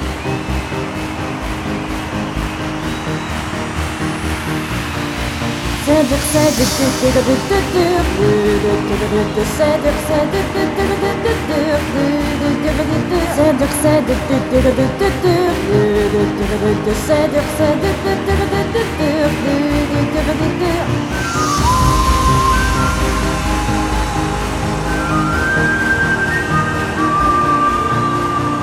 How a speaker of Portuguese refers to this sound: Concerto de motores a combustão e jardinagem.